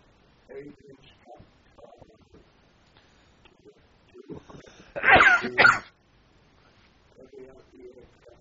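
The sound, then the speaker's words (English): A sudden, loud sneeze bursts out in two quick blasts, with quiet conversation before and after it. “I was sneezing, sorry.”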